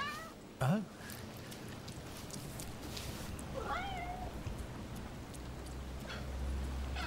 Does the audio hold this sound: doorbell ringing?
no